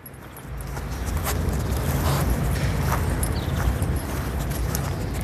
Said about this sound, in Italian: Questo invece è un cane che cerca con il naso qualcosa. E lo fa perché sente degli odori interessanti, quali per esempio quelli di altri cani o animali da predare, eccetera, eccetera.